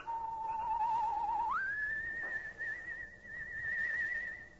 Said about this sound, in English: Suddenly, the shadowed outline of a human figure appears at the edge of a cypress grove behind the weather-beaten Horton house, and a soft, whistled signal rides the still night air.